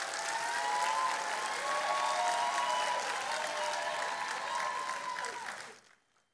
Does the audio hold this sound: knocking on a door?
no